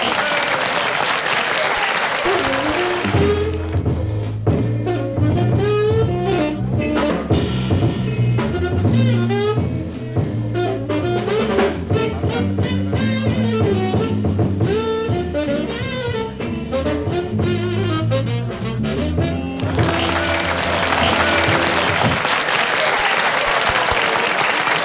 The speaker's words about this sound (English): Thank you very much if you bothered to applaud for me. No, it's too late now.